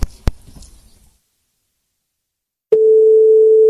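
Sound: telephone busy tone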